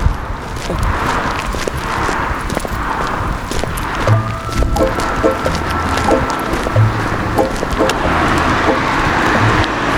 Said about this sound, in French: Là, une voiture qui me prend, une Peugeot d'artisan a priori.